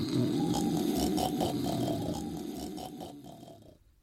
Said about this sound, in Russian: Словно в подтверждение этих слов, отец делает несколько неуверенных шагов и действительно падает. Через секунду двор оглашается его могучим храпом.